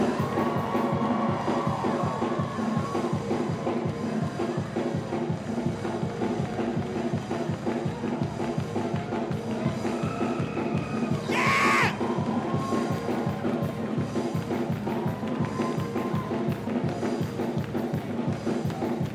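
A large audience shouts and yells together on a count of three in a dense, continuous roar, with a brief sharper burst of noise partway through, loud and sustained throughout.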